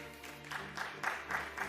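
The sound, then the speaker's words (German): Brief, thin applause from an audience voting for a newspaper by clapping, a scattering of claps rising and falling in quick bursts, fairly quiet over a steady low hum. “Sie achten darauf, welche Zeitung den meisten Applaus bekommt.”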